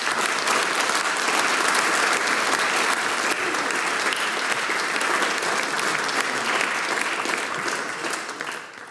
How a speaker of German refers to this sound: Wir wünschen euch alles, alles Gute dafür, frohes Schaffen, und der Applaus, der gehört jetzt euch zwar. Danke euch.